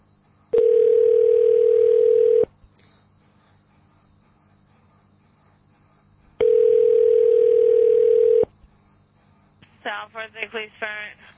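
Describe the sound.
A telephone dial tone sounds twice as someone calls phone numbers, each steady buzzing tone lasting about two seconds with a long silent gap between, followed by a brief bit of someone speaking.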